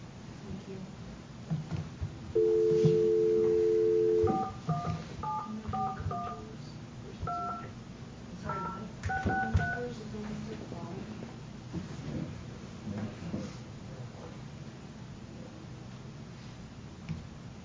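A steady dial tone hums for about two seconds, then a quick, uneven run of a dozen or so short two-tone keypad beeps as a phone number is dialed to call back, all over a low rumbling background noise.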